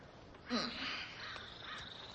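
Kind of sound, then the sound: bird, parrot squawking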